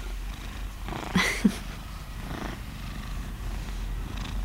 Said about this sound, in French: Un chat qui ronronne, ça vibre. Donc je pense que ça peut être très intéressant pour une personne sourde aveugle. Et c'est doux, au toucher.